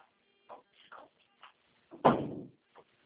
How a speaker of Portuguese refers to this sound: Fecha a porta, por favor.